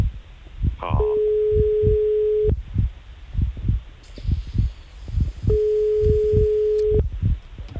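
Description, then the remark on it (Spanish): A steady telephone ringback tone sounds twice while a phone call is being placed, each long beep lasting about a second and a half, separated by a pause, over a faint rhythmic thumping in the background with no speech. “Ahí está, tercer tono. Tenemos 6 tonos de tiempo.”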